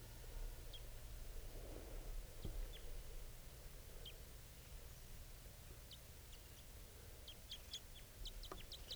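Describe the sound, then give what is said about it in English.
A wild male bird chitters as it comes down from the top of a tree on approach, in short, high, thin notes, sparse at first and then quickening into a rapid cluster of calls, over a steady low rumble of background noise. “That was him on approach.”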